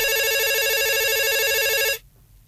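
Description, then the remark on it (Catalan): A telephone rings loudly with a bright, buzzy electronic trill that warbles rapidly between two pitches, sounding steadily for about two seconds before cutting off abruptly into near silence. “Truquen, eh? Truquen. Agafeu-lo.”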